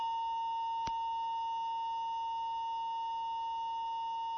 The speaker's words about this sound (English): how coincidental is a cluster of earthquakes and hearing tones?